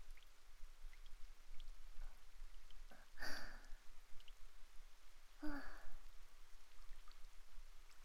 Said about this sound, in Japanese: 雨、強くなってきましたね。